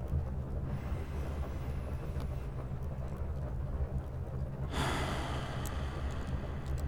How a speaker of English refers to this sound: Now, keep that breathing nice and slow and steady for me, yeah? Like this.